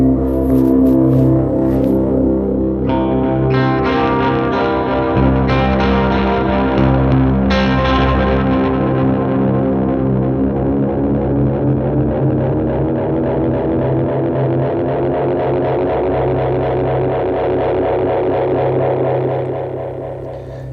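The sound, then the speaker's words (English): An analog echo effect with feedback and echo volume both turned all the way up builds a loud, dense wash of smeared, repeating tones that pile up and warble continuously for about twenty seconds before easing off, with no voices. “but basically I've been using it with like feedback all the way on, echo volume all the way on, and then I kind of just choose my echo rate.”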